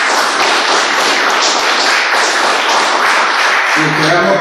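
A crowd breaks into steady applause, many hands clapping at once in a dense, continuous patter that stays loud throughout, with a faint voice surfacing near the end.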